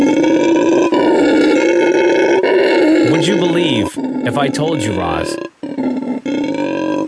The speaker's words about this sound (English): that this is a sound coming out of a monkey? What's the monkey doing? Do I want to know what the monkey's doing? Just perched up on a tree. Oh, he's not even like sleeping? No. This is the noise that this monkey makes. It's called a howler monkey.